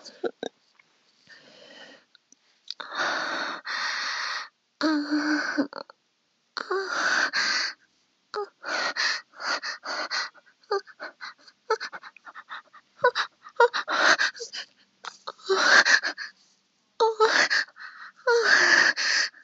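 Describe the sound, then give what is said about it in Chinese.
Heavy, ragged panting breaths of a person lying on a chair with eyes closed, coming in uneven bursts of loud, wheezy inhales and exhales separated by short pauses. “我闭着眼睛，躺在椅子上，喘息着。”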